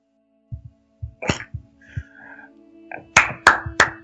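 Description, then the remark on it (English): A few slow, sharp hand claps ring out one at a time, each trailing off in a roomy echo, preceded by soft low thuds and no talking. “You hear the clapping over the just echoing through the room.”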